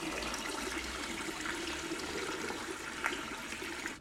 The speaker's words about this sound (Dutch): Even later drinkt ze water van de kraan.